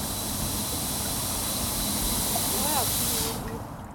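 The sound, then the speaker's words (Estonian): A modern, movable mist fountain sprays steam into the air, which the wind spreads, with a steady, loud hiss that fills the whole stretch, then thins out abruptly near the end. “See udupurskaev paiskab õhku auru, mille tuul laiali viib ja tekitab vaatajates elevust.”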